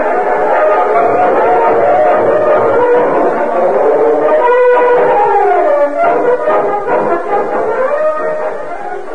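A loud, sustained train whistle sounds in long, wavering horn-like tones, with a steady rumble beneath and a slight bend in pitch midway before it fades toward the end.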